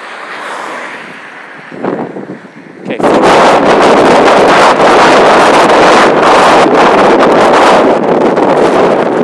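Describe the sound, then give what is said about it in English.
Strong wind buffets the microphone outdoors on a very windy day beside a side road, a loud, constant roaring rumble that surges in after a brief quieter moment with a short spoken word near the start. “I listen quite hard because it's really windy and I can't hear the traffic on the side road.”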